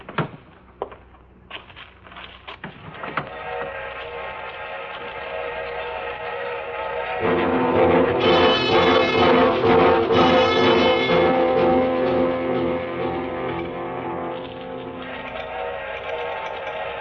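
A train pulling in: a few sharp clanks at first, then a steady rumbling roar that swells louder partway through, with a ringing, squealing tone riding over it. No one speaks.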